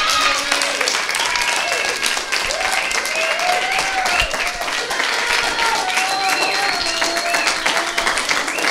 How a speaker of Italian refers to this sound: Facciamoci un applauso, una grande favola.